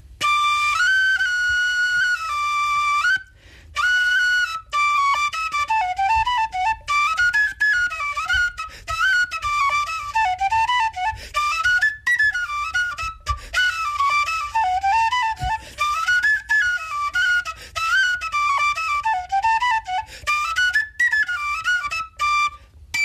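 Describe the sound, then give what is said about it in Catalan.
A breathy, flute-like melody played on a chair, a single clear tone gliding up and down in quick runs and wavering phrases, steady and fairly loud for over twenty seconds with brief pauses and no voices. “això és un concert de flauta a cadira”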